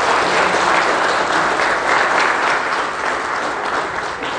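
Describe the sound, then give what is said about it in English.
A crowd applauds steadily in celebration of people who have professed Jesus Christ as Lord, a dense wash of many hands clapping at once that stays loud and even throughout, with no voices breaking through. “Clap for these in celebration.”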